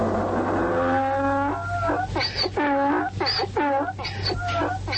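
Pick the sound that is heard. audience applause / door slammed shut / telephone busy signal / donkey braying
donkey braying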